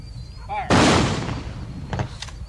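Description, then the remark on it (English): A military rifle volley by the American Legion at the funeral of Lord Open Road, a World War II veteran: one sharp, loud crack of rifles fired together, trailing off in a long rumbling decay. Faint voices are heard briefly before and after it. “Lord Open Road was a World War II veteran, so the Brit American Legion gives him a proper military send-off.”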